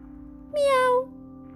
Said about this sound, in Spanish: Y ella es Dharma, la gata del templo. Le gusta estar quietecita y pensar en silencio.